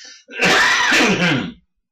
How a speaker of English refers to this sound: Little sniffles, must be a cold.